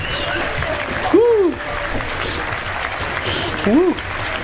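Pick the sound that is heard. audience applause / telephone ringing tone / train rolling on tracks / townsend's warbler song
audience applause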